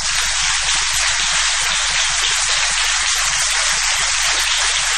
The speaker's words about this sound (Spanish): Aquí estamos en el Multiteatro de la calle Corrientes, 1283, y vamos a extender nuestro aplauso para que cubra también el nombre de Patricio Barto.